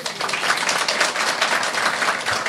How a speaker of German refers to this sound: Applaus nochmal dafür.